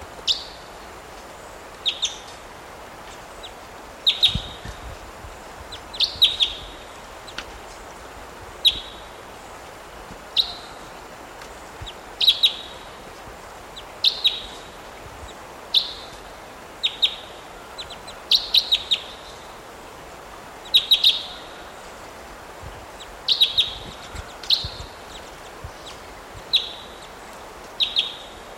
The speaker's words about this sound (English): Type 2 bird just flew in here. Didn't get recordings of it. This is a different one from the one before.